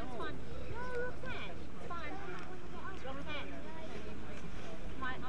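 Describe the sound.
A boat chugs along a river with a steady low rumble and wind buffeting the microphone, while indistinct voices and chirpy calls rise and fall over the top.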